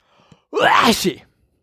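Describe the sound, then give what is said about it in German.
A single loud sneeze bursts out after a short, faint intake of breath, lasting under a second before fading into silence. “Ich muss mal gerade eben mich muten, weil ich niesen muss.”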